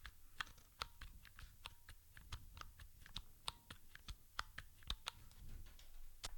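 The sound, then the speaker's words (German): Key presses on a Mikey mechanical keyboard with a Cherry-made mechanism, a steady series of crisp clicks at an irregular typing rhythm, with no talking and a faint low background hum. “Irgendwo habe ich auch mal gehört, dass die Mechanik der Tastatur des Mikey von Cherry geliefert wird.”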